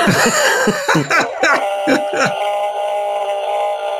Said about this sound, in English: Is that a Yeti call? No, there's four sounds on it. Okay. Oh, you've got cool. Howl, snort, roar, or groan. So depending on how you guys go on the show, you'll get these sounds coming at you. Very nice. That was howl.